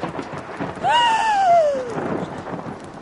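Thunderstorm sounds: a steady hiss of rain with a low rumble beneath, and a drawn-out wailing tone that swells briefly, then slowly slides downward before fading back into the rain.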